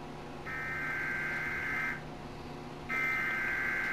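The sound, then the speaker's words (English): A broadcast emergency warning alert tone: a harsh, steady electronic tone sounds for about one and a half seconds, cuts out briefly, then starts again, over a low background hum. “And then there are the warnings that we never really want to receive, like this one.”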